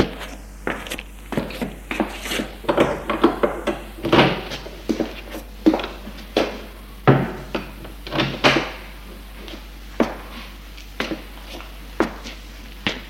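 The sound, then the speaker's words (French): A door on the first floor of a house being opened, with a long run of sharp clicks, knocks and rattles, as of a handle and latch being worked, coming in irregular bursts for several seconds, with no talking. “Et là, il ouvre une porte.”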